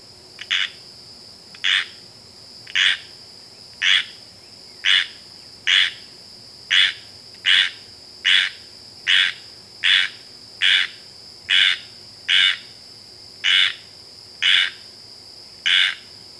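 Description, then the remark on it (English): A squirrel tree frog's raspy rain or tree call, resembling a gray squirrel's scold, repeats in short, harsh bursts, about fifteen evenly spaced notes, clear over a steady high insect drone. “The rain or tree call of the squirrel tree frog is reminiscent of the raspy scold of the gray squirrel.”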